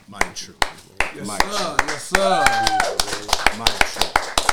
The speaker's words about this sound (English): Man, I'm going to go and clap it up for my brother.